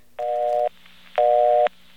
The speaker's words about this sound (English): a busy signal from a non-electronic office, a mechanical office.